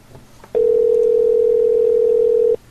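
A phone line's ringing tone sounds once, a steady, loud electronic hum lasting about two seconds, then cuts off, with only faint background noise before and after.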